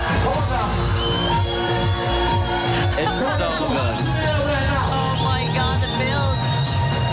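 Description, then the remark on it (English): A dense festival crowd at Glastonbury roars and cheers nonstop at the drop of a drum and bass remix of the BBC News theme, over loud, thumping electronic music with sustained bass tones, the whole mass of voices staying intense from start to finish. “And then the crowd go absolutely mental.”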